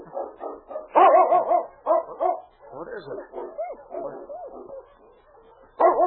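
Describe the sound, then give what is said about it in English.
A sled dog team barks and yips in quick overlapping bursts, with whining howls in between; a man briefly speaks over the racket. “It's a dog team.”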